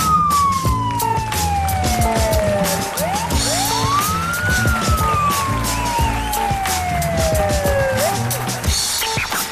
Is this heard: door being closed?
no